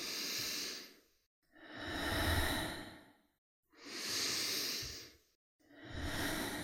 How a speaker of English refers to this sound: Three more breaths. Full breath.